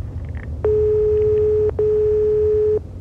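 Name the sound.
telephone line ringing tone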